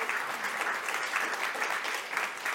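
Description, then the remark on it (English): A crowd applauds steadily, a dense wash of many hands clapping at once, sustained and fairly loud throughout with no voices standing out. “applaud louder.”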